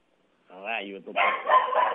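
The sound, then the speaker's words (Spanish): Dogs bark in a neighborhood in Baracoa, Guantánamo, agitated because a person arrived: first a drawn-out, whining bark, then a burst of rapid, overlapping barking from more than one dog, loud and agitated. “Ya se acabó la entrevista, porque estos perros ahora llegó una persona y se alteraron.”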